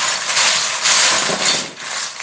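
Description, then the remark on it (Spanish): Continuous clattering and rattling of small plastic Lego bricks being shuffled and sifted by hand by a 9-year-old child at home in central Bariloche, with surges of louder rummaging and no voices. “Y soy yo jugando con mis legos.”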